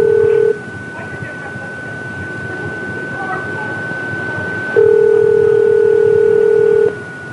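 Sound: telephone dialing and ringing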